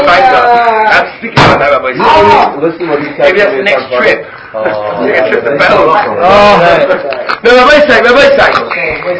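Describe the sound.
A few sharp raps on a door cut through steady, lively conversation, the knocks brief and fairly close, mostly buried under several people talking over one another.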